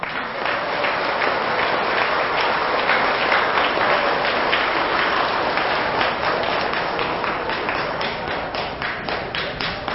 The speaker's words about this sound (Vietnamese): Nếu quý vị thấy rằng là việc thực tập đó là rất cần thiết và có thể làm được trong tầm tay, thì hãy dâng cao tràng vỗ tay và nở được cười thật là to.